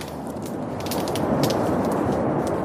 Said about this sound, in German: Und so klingt ein totes Korallenriff. Da hören Sie nur noch den Wind, da hören Sie nur noch die Wellen und nichts lebt mehr.